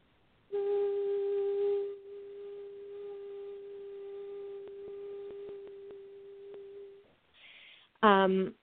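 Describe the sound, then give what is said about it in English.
A single person hums one long, steady note for about six seconds, starting strong and settling into an even drone, then breathes and begins another short vocal sound. “Go into yourself and find your own harmony. Hum.”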